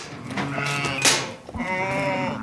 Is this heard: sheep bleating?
yes